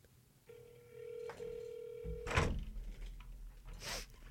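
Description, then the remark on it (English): A phone call rings out: a steady electronic ringing tone lasts about two seconds with one short break, then gives way to clunky handling noises and a rustle, with no talking. “I gotta call someone right now. Like, phone a friend.”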